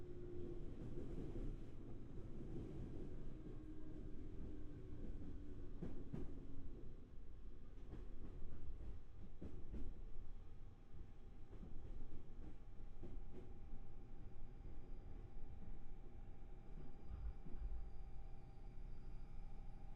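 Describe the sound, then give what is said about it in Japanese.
Steady low rumble of a train rolling along rails, with rhythmic clicks and clacks of wheels over track joints and occasional metallic squeals, heard from inside the carriage with no talking. “そろ列車が一時停止すると思いますので。”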